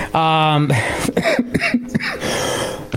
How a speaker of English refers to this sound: You've got my cough. You caught it through the access unit.